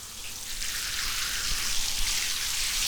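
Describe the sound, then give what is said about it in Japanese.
A steady hiss of shower water spraying onto hair to pre-rinse it before shampooing, continuous and even throughout with a soft rushing texture and no voices. “また目をギュッとして、シャワーかけるね。”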